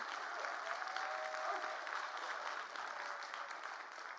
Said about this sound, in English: Yes, we can clap.